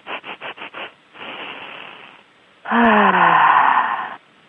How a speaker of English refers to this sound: And this one is easy to demonstrate for the listeners. And it's simply panting three times, and then a deep breath in, and then a sigh out. So it's like this.